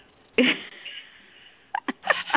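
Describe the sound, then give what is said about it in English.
A sudden, sharp sneeze from a person in Texas bursts out, trailing off into a breathy tail, followed by a few quick, short bursts of breath or sniffling. “I'm in Texas, so I'm sneezing or coughing or whatever.”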